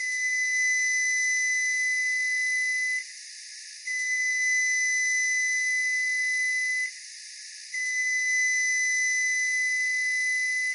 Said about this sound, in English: When the sound is meant to tell you something, it's called an intentional sound. Here are the three long beeps of a newer model Frigidaire microwave.